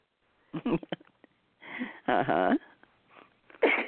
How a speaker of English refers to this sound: Excuse me. Bless you. I got a sniffle here. But I'm okay. Okay. It just shows up from the dust. And I was pushing with the furnace. The dust from the furnace got me.